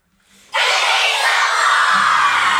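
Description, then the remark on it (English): A large audience suddenly yells "Give me some more" together in unison at full volume, a loud crowd shout that bursts in after a brief hush and holds steady for a couple of seconds, rehearsed to be put into a song. “I'll go one, two, three, And then we'll all yell, "Give me some more," as loud as possible, and then we'll put it in the song.”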